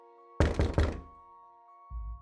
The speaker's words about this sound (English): I walk up and knock on the door. You walk up to the door and knock, and there is no response.